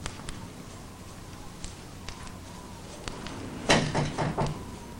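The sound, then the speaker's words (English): A workshop door is pushed shut behind a man entering, with a brief cluster of clattering thuds and a low rattle at the end, after a few faint scattered clicks over quiet background hiss. “He shuts the door behind him.”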